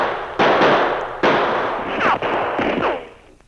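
gunshots

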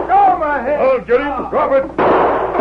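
gunshot

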